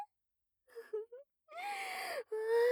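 human body sound, whimpering

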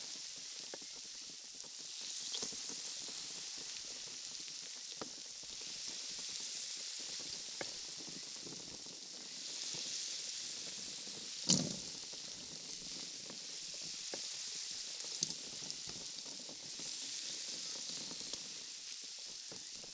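food or drink, carbonated drink fizzing

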